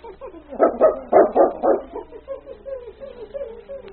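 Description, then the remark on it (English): A dog named King, given a dirty rag to sniff and told to find it, lets out a quick series of about five sharp, mid-pitched barks, then trails off into softer whining, yelping sounds. “Take a sniff of this, fella. Find it, boy.”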